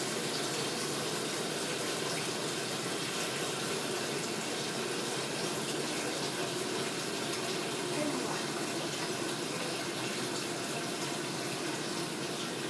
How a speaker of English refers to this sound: I'm just going to fill up the sink with cold water. Why? Okay. so that we can cool down the pan when it's finished.